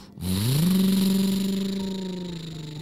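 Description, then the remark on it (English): A truck engine starts up and revs, its pitch climbing quickly then holding steady in a loud, sustained drone that slowly fades slightly, with no voices, as the truck drives away from lava with a family riding in the truck bed. “They were able to drive the truck back safely to Frankie's house.”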